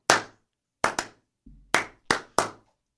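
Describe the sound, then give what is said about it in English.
Slow, uneven hand clapping: about six or seven sharp, crisp claps spaced out over a few seconds, with one dull low thump midway and no voices. “Slow clap. It's slow building. Clap.”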